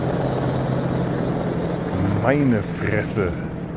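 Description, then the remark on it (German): A steady, low droning rumble of two huge helicopters flying quite low overhead fills the scene, loud and continuous, with a brief voice-like sound rising over it near the end. “Auch wirklich zwei riesigen Riesenbrocken von Hubschrauber, die da gerade über mir wegfliegen. Ziemlich tief.”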